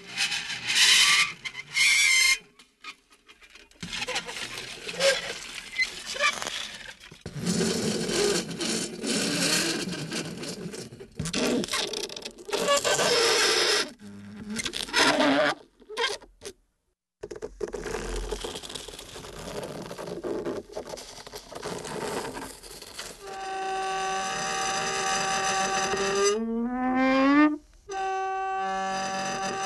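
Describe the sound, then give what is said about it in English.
A sheet-metal film reel, touched to dry ice by film sound recording artist Andy Aaron of Ardsley, near New York City, squeals loudly, giving harsh, wavering metallic shrieks and scrapes with short pauses, then a sustained whining tone that bends upward in pitch near the end. “Here's a film reel made out of sheet metal touching dry ice.”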